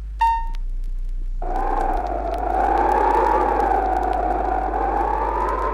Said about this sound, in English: The rain changed to snow, and the wind howled from the north.